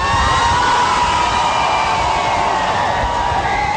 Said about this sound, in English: There were cheers on Monday as Pope Francis emerged from his plane in Rio de Janeiro for his visit to Brazil.